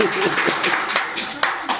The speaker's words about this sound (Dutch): Heb jij een getuigenis? Amen. Laat een applaus hier voor de Heer.